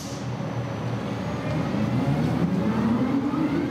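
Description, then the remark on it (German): Steady low rumble inside a moving tram in Oslo, Norway, with a whining tone slowly rising in pitch as it accelerates and pulls away; no voices. “ist für uns in Oslo in die Tram gestiegen.”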